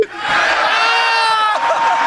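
A large crowd at a Sounders march and rally cheers in a loud, sustained roar of overlapping shouts and whoops, with a brief lull near the end before the noise swells again.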